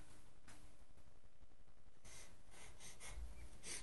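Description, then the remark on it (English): A person blows their nose, a few forceful, breathy honks and snorts in quick succession, with no talking. “Felt like I needed to blow my nose. I just did.”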